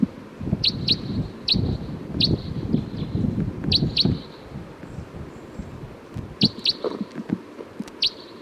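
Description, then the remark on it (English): Short, high chirps of a wild bird, thought to be a crossbill down a hill, repeat in quick pairs and clusters throughout, over a low rumbling background of rustling and muffled thumps. “I think there's a wild bird here.”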